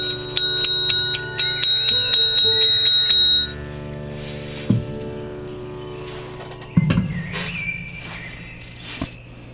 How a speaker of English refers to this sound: And it's called Watch the Watcher, Watch the Watcher. So I'll ring the bell here so you know there's an exercise in it.